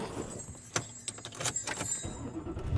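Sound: car driving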